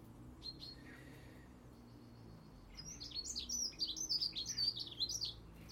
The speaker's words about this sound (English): Lots of birds are in the garden at the moment. The collared doves are up on the they're on their safe perch.